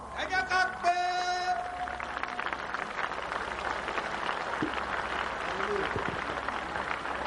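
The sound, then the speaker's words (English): An audience claps steadily for several seconds as a clap offering to God while a speaker is welcomed to the microphone, a dense, even patter of many hands, with a brief sung or called-out tone over the start. “please, to the microphone with a clap offering to God.”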